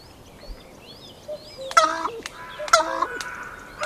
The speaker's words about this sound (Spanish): ¿Esto es corneja también? Esto es una corneja pegándose con un cuco.